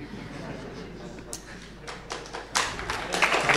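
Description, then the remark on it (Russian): A few scattered claps grow into lively, enthusiastic clapping from a small group of men, loudest in the final second, with a low murmur of voices behind it. “Мужчины бурно хлопают.”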